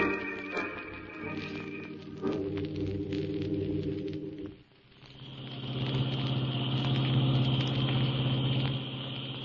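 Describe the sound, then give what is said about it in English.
A car engine runs steadily while driving around a mountain, a low continuous hum that dips briefly midway before settling into a louder, even drone. “We're losing time driving around this mountain.”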